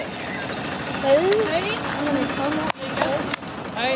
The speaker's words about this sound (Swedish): Här kör två traktorer som kör fram och tillbaka.